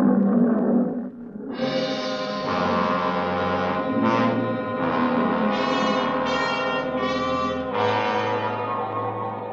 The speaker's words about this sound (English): Nobody answered me but an old Libyan lion.